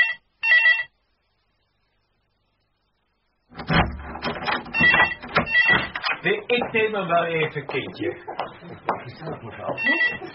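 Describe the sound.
A telephone rings twice in short, bright bursts, then after a pause a clatter of handling noise leads into a person talking.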